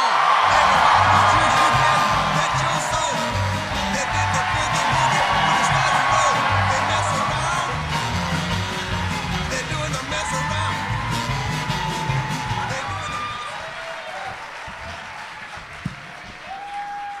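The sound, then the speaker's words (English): A loud, sustained audience ovation of dense clapping mixed with whoops and cheers, holding steady for many seconds before gradually thinning out toward the end. “They gave you such an ovation that you looked at your phone on stage silently.”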